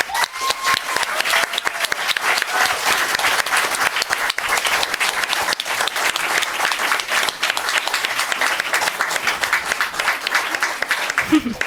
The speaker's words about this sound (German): Deswegen wollte ich einmal einen ganz großen Applaus und Dank an die MentorIn von diesem Jahr haben.